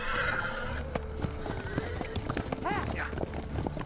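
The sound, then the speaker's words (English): Horse hooves clip-clop in a steady, rapid trotting rhythm as riders turn and ride away, and partway through a horse lets out a high, wavering whinny over the hoofbeats. “They turn and ride away towards the sun.”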